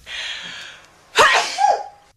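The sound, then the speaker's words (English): A single high-pitched sneeze from a YouTube sneezing video, loud, with a breathy intake first and a sharp burst ending in a thin squeaky tail. No talking. “there's a demand for sneezing videos.”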